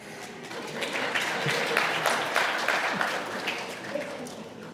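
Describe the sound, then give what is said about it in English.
A crowd claps steadily for several seconds, a dense, sustained patter of many hands at moderate loudness with no voices rising above it. “I did not expect applause.”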